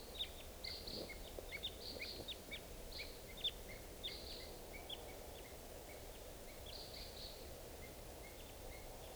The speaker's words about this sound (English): It's 6:55, and I hear crossbills, type 2s coming around. Two birds. Three, four responding.